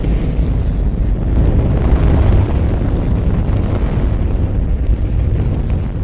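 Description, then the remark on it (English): A tremendous, sustained roar from the engines of a Saturn rocket's first stage, clamped down and fueled in a test stand during a 1965 static test firing, deep rumbling and crackling continuously at full power for several seconds with no voices. “in 1965, a Saturn rocket's first stage was put into the test stand, clamped down, fueled up, and the engines were ignited.”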